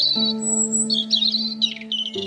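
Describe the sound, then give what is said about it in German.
A mother robin chirps and twitters to its chick in quick, high, bright bursts, clear, over a steady low droning tone that holds underneath throughout. “Danach zwitschert die Vogelmama auf ihr Kind ein.”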